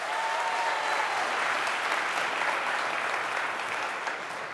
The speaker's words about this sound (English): If you believe that, give the Lord a hand clap of praise real quick.